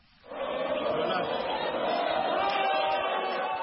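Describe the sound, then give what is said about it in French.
A large crowd of supporters erupts into loud, sustained cheering and shouting for outgoing president Félix Tshisekedi as he votes at a polling station in Kinshasa, after a brief quiet start, a dense wall of voices that stays steady for several seconds. “Félix Tshisekedi, 60 ans, a voté dans un bureau de Kinshasa, souriant et acclamé par une foule de supporters hystériques.”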